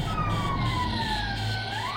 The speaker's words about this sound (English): Sound collision alarm.